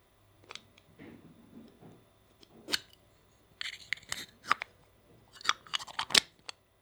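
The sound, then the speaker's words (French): A small plastic box is handled, giving a quick series of sharp, dry clicks and snaps with brief rustling between, like a lid being opened and pressed shut. “Une petite boîte en plastique.”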